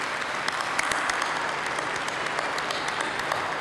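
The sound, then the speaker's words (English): Steady audience applause at a graduation ceremony of a graduate school of management and college of business, given for the many staff present: a dense wash of many hands clapping at an even, sustained level throughout, with no voices standing out. “Can I ask you to join me in an applause for the many staff people that are here among us?”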